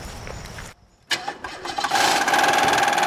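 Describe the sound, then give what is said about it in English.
A white sedan's engine cranks through a few quick bursts after a brief quiet moment, then catches and settles into a steady, loud running hum as floodwaters rise, with no one talking. “After some effort, the car makes it onto the street.”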